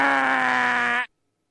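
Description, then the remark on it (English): A man's voice imitates a loud buzzer with a harsh, steady, nasal drone lasting about a second, held at full volume and then cut off abruptly, followed by silence. “if a telemarketer called during dinner, I would pick up the phone, and if they went into a pitch, I'd go with the manual buzzer.”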